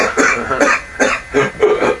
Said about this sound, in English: I mean, the tone that you get from the harmonica comes from the back of the throat and the chest and your hands. So if you kind of like imagine like you're choking yourself. Or coughing.